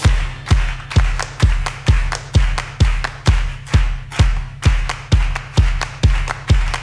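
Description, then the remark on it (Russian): A steady series of sharp claps from people standing, about two per second, in an even beat, with a deep thumping pulse underneath each one. No voices are heard. “Стоят все хлопают, но я тоже похлопаю.”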